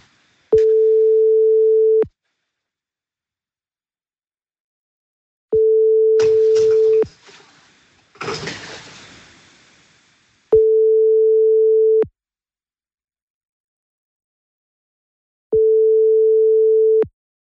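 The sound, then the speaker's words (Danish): A phone ringing tone sounds four times, each a steady single-pitched burst of about a second and a half, evenly spaced by pauses, with brief clattering and rustling noises between the second and third. “Han lever hele sit liv på sin telefon. For fuck's sake. Klarer man ikke også at slå den på lydløs, når man ligger og sover?”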